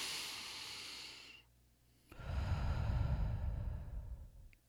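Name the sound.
deep inhale and exhale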